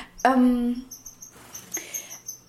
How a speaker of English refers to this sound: I'm in the living room. I noticed that I haven't done a boo here for a while. That's a pity because our birds are so active. And maybe it's nice to hear them in the background.